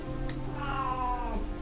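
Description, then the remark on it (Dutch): A cat gives one drawn-out meow, rising and then falling in pitch, clear, over a steady low background hum with no one talking. “Ja, poesie. Ben je niet tegen?”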